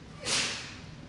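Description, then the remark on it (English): A single sneeze bursts out as a sharp, breathy hiss that peaks quickly and trails off within half a second, with no talking around it. “Bless you.”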